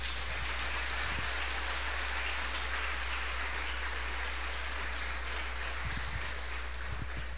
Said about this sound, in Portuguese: Aplauda ao Senhor.